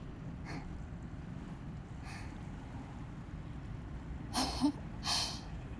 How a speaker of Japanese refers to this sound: ここならバッチリ関門海峡線沿線の音ですよね。